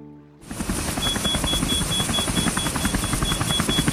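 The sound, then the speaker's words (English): A helicopter in flight near a river fades in quickly, then holds a loud, steady rapid rotor chop with a thin high whine over it. It stays constant throughout, with no voices. “Now, let's go back to the helicopter.”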